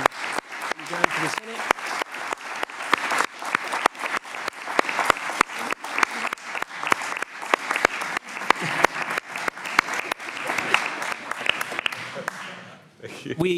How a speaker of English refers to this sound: I think we need to give the man a round of applause and say thank you.